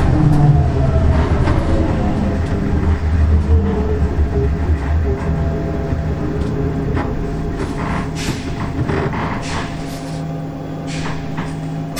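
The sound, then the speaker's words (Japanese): Steady interior rumble of a trolleybus in motion, with a low droning hum, faint electric whine and occasional brief hissing clatters, continuous and fairly loud with no one speaking. “トロリーバスを降りられましたら係員の誘導に従ってお進みください。”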